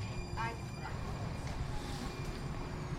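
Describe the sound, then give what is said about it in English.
A steady, loud rumble of a new subway train idling at a platform as people board, with a constant electrical whine, a couple of brief high chirps early on, and faint murmuring voices. “We're taking this train? We taking this one? All right, well, let's get on and see what it's like.”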